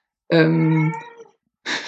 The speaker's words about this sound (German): Jetzt muss ich mit der Katze im Hintergrund. Ja, ich werde ihn gleich rausschmeißen. Vor allen Dingen, es klingt nicht unbedingt wie eine Katze. Es ist so wie Goats that sound like humans. So. Ich verspreche euch, es ist eine Katze.